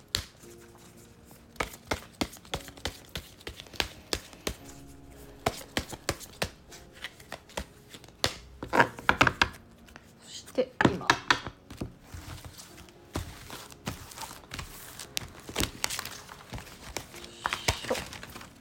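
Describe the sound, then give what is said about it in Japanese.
A deck of cards is shuffled repeatedly for a card-reading message, a steady run of crisp riffling and slapping clicks in quick bursts, with a few louder taps as the deck is squared, and no talking. “ではこのポッドキャストを聞いてくださっている方々の7月8月9月に必要なメッセージをください、はい、ではそのメッセージのためのカードシャッフルに入ります。”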